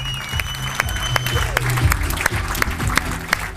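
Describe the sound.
An audience applauds a woman called back onto the stage at a PostFinance event, a dense wash of clapping with sharper individual claps popping out at a fairly regular beat, and a few voices murmuring underneath.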